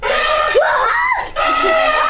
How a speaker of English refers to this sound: The kids shriek in response.